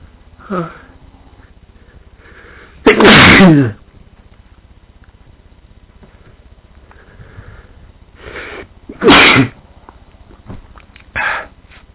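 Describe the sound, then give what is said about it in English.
Someone with a cold tries to bring on a sneeze using a wet paper: a few short sniffs and two loud, harsh nasal bursts, like snorts or near-sneezes, with quiet gaps between them and no talking. “Well, I am I am already inducing, as you can hear probably.”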